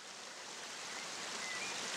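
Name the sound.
flowing river water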